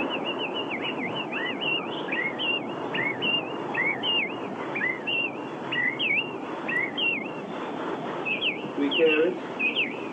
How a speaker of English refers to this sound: That is the song thrush. He said he would deliver me. Did he do it? Did he do it? He sings his accusation twice.